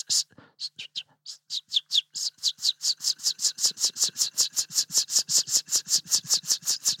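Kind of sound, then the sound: bird, river warbler song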